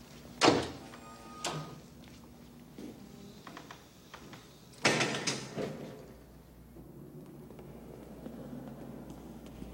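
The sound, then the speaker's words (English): A teacher handles and shuts his classroom door: a sharp thunk near the start, a softer knock, then a second heavier bang midway, followed by faint rattling and low room hum. “We're going to pick up a scene where he's closing the door in his classroom for the final time.”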